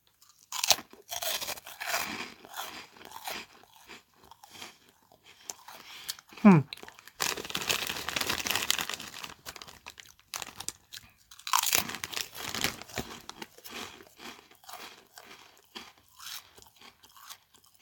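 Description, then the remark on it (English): Loud crunching and chewing of pickled onion Monster Munch crisps, with bursts of bright crackly bites and rustling of a packet, continuing steadily for several seconds with short pauses between mouthfuls. “Conveniently, I have a cupboard in my kitchen containing approximately 1 billion packets of pickled onion monster munch, so let's try it out.”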